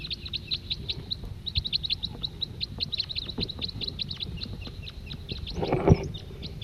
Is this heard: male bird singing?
yes